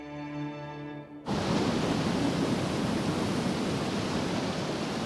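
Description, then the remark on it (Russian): A brief low harmonic tone gives way abruptly to a loud, steady rush of river water under a blue sky where clothes are being washed, a dense continuous roar of current that carries on without a break to the end. “Зачем нам веревка? Чтобы течением не смыло. Вода штука опасная.”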